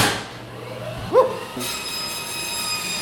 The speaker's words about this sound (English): You can fire up the bandsaw.